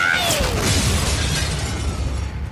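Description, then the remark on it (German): A forceful gunshot impact bursts out loudly as the shot hits with full force, followed by a sustained crashing roar with shattering debris and falling, whistling tones as a coffin is destroyed. No voices are heard. “Der Schuss schlug mit voller Wucht ein.”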